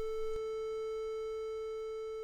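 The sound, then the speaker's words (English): A steady A440 sine-wave reference tone holds at one unchanging pitch for about two seconds. It is alone and fairly quiet, with a faint click near the start. “Well, yeah, there's an A note for you.”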